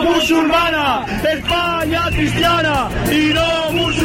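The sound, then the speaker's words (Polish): A large protest crowd of tens of thousands in Madrid, at a demonstration against Prime Minister Pedro Sánchez's government organized by the opposition People's Party, chants in rhythmic unison calling for Sánchez to resign: loud shouted voices rising and falling in repeated phrases over a constant roar of massed voices. “Sanchez, podaj się do dymisji, skandował tłum.”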